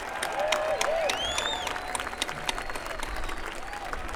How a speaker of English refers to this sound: How about a big round of applause for a lot of the folks that really helped to put this together? The volunteers that have been here since 7 o'clock this morning from parks and special events for them.